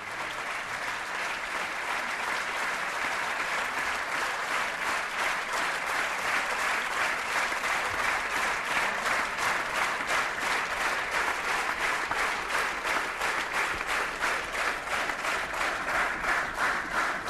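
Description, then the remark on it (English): Loud, steady audience applause as the curtain comes down on a play in Israel, with a slow, rhythmic hand clap, the Israeli way of showing approval, running through it in regular beats for the full length without letting up. “Curtain is down to rapturous applause, and that slow hand clap is the Israeli way of saying we approve.”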